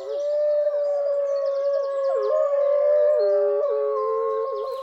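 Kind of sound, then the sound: animal, wolves howling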